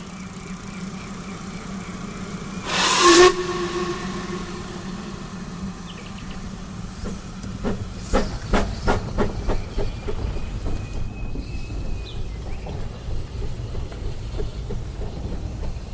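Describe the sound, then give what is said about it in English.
A steam locomotive on the Dean Forest Railway in the Forest of Dean lets out a loud, short burst of hissing steam, then settles into a low rumble as rhythmic chuffs and clanks build steadily; no one speaks. “Fully refreshed, our cyclists are back in the saddle, heading up the Wye to the Forest of Dean, where they'd organised a rather steamy rendezvous.”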